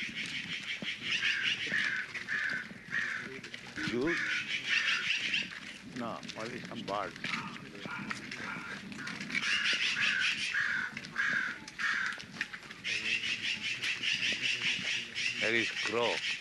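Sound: crow cawing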